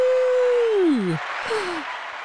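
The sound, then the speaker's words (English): A burst of canned applause from a sound button, a steady wash of clapping noise with a couple of sliding, falling whoops or whistles riding over it. “I actually have a button that's applause.”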